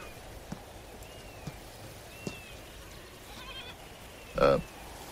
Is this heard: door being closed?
no